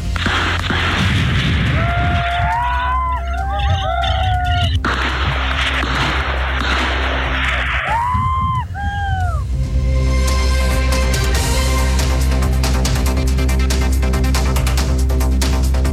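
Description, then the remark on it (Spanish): High wailing cries rise and fall early on, then a long stretch of rapid, sharp gunshots crackles almost continuously in the second half over a steady low rumble. The shots come during an armed clash as Carabineros police enter and then withdraw from a rural area in a raid at Temucuicuy. “No hubo heridos, pero sí hubo incidentes respecto de enfrentamiento con disparos.”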